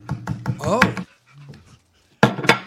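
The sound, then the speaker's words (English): A dog that has been given a mock steak pants in quick, breathy bursts and lets out a brief rising whimper, then falls quiet before another short flurry of heavy panting. “what if you give Choco dog a steak?”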